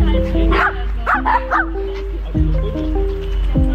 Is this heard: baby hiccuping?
no